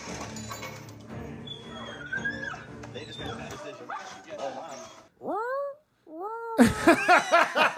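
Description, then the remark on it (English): A dog whimpers and yips in a run of high, rising-and-falling whines and sharp cries, fairly loud, following a stretch of busy background noise and indistinct voices. “Oh, that dog wants in there.”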